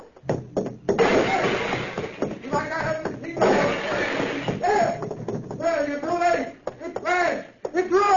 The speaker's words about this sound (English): I'll let you have this crowbar, too. I'll smash you like I smashed this machine.